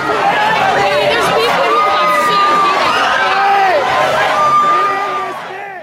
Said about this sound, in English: Like this one, when crowds pushed through the back gates of a venue